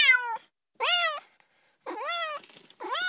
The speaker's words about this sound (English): I don't know, a cat.